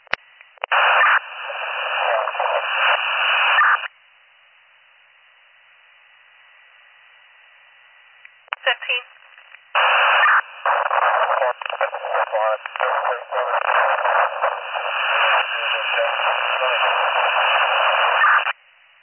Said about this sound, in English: Your last transmission was all static. Can you go again?